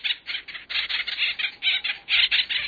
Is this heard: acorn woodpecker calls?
yes